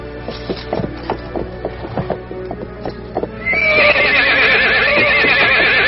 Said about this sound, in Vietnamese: Tại sao lại cưỡi ngựa chấn như vậy? Ngựa này đã thuần phục nhiều năm rồi, chưa bao giờ như vậy. Tới đây. Con ngựa trắng này ta đã cưỡi nhiều năm, rất là thuần phục, không bao giờ nổi giận cả.